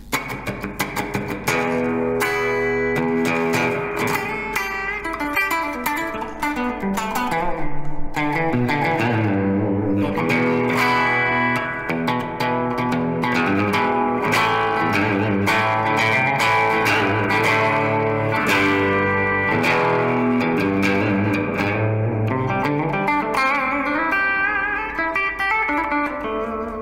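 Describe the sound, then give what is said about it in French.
Loud, sustained electric guitar tones drenched in a springy reverb wash from the smallest model of spring reverb tank, a box whose springs resonate, with notes ringing and smearing into one another for the whole stretch. Nobody speaks. “Un tank de ressort, c'est un boîtier où on va avoir tout simplement les ressorts qui vont résonner.”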